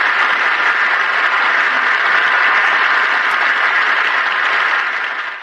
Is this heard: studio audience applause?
yes